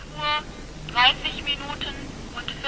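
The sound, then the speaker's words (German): A telephone rings in short, bright electronic bursts repeating several times over a faint background hiss, an automatic wake-up call from an electronic telephone exchange. “Nur 60 Pfennig kostet dann der automatische Weckruf.”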